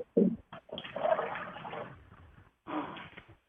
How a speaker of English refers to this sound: Who flushed the bathroom?